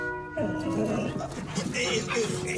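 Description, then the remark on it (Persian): A dog at a dog show whimpers with a thin, steady whine at first, then breaks into a busy run of high, overlapping yips and whines that carry on without pause, fairly loud, in an area meant as a calm space for dogs and their owners. “دارید تمرکز سگا رو به هم میزنید کارگاه. این قسمت قرار فضای آرامش بخش مخصوص سگا و همراهانشون باشه.”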